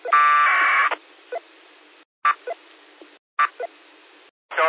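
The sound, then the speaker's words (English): A loud, buzzy APRS data burst blares over a radio repeater for about a second, then gives way to hissy channel noise broken by short chirps and abrupt squelch dropouts. “I was just trying to figure out if that's him beaconing on the repeater.”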